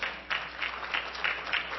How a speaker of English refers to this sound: I hope you're still clapping when I ask for money to pay for that.